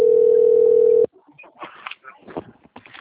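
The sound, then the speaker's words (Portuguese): A loud, steady telephone dial tone hums for about a second, then cuts off abruptly, and a voice begins speaking quietly over the line. “só um telefone.”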